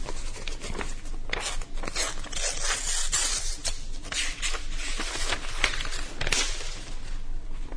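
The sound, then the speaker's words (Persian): A paper envelope holding a letter is torn open in one long, crackling rip lasting several seconds, with dry rustling and scraping throughout and no voices. “اما شاید کلید معما تو همین پاکت باشه. هرچند کار ناشایستی اما باید نامه رو بخونم.”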